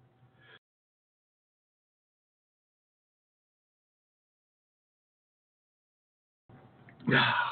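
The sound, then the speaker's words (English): After a long stretch of silence, a single loud sneeze bursts out at the very end, preceded by a brief sharp intake of breath. “Hold on a minute. I got to sneeze.”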